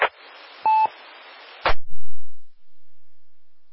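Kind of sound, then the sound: signal or alarm, telephone dialing beeps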